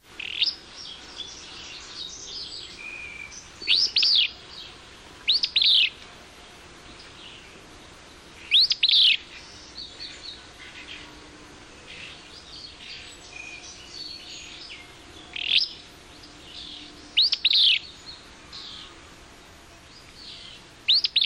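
Willow flycatcher song recorded at the Kern River Preserve in Southern California: sharp, buzzy two-part phrases repeat every few seconds, with softer rising call notes at the beginning and between them, over a steady background hiss of insects.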